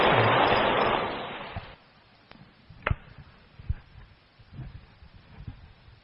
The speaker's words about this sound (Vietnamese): Xin chân thành pháo tay thật lớn chào đón.